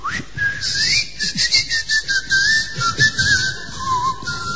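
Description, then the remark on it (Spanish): A person whistles a continuous, wavering tune with sliding pitches for several seconds, clear, over a low rumble of background noise and faint hiss. “O mi voz o con mi chiflido.”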